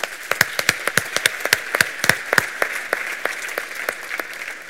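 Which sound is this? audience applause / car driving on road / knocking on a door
audience applause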